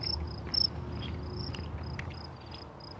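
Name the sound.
insects chirping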